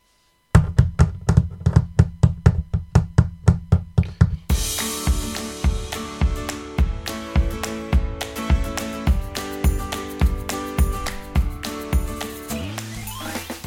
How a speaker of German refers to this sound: Doch dann hörte er ein lautes Klopfen über sich.